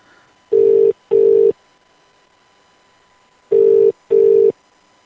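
A telephone ringing tone while calling a UK number: two pairs of short, steady, mid-pitched buzzing beeps separated by a pause, the classic double-ring pattern heard while a call connects. No one speaks.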